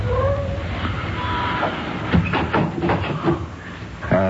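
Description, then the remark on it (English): A running car engine drones with a low, steady rumble while a thin squeal rises and fades early on, then a burst of uneven clicks and knocks, sounding like something has come loose in the engine, rattles through the middle. “What's that noise in the engine? I don't hear anything. Well, it sounds like something got loose.”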